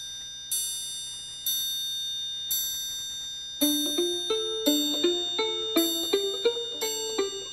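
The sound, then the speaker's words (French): A large clock with seven hands chimes the hour: three slow, ringing bell strikes, then a brisker melodic run of overlapping tones that ring out and decay. It is clear, with no voices. “La grande horloge aux sept aiguilles sonne l'heure des sourires figés.”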